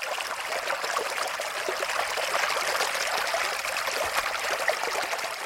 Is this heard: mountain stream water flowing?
yes